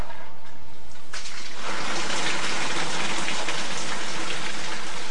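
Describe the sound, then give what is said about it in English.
A shower of water falls from a fountain in a sculpture being worked on, a pump keeping it raining down as a backdrop behind the figure of a boy; it starts softly and swells within a second or two into a loud, steady splashing hiss without any talking. “The work will have a shower of water raining down as a backdrop,”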